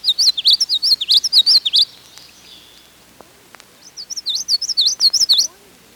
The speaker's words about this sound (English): In brushy tangles, you can hear common yellowthroats singing witchetty, witchetty, witchetty, or looky here, looky here, looky here.